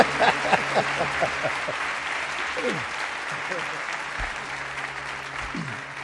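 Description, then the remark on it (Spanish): An audience applauds the first guests steadily, a dense wash of clapping that holds for several seconds and fades slightly toward the end, with a few voices murmuring and calling out underneath. “y os pido un aplauso para ellos, los primeros invitados, mientras vamos cambiando.”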